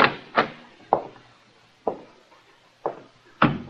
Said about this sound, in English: This must be the library. Try the door, Muggan.